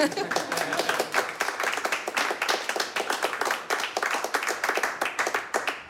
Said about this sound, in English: Clapping so I can tune up.